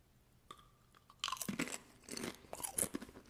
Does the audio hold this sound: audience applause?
no